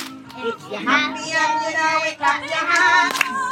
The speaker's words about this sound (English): It's quite hard, and you won't know it, but it does involve clapping. Can you clap your hands? Yeah, you'll be all right. Clap your hands.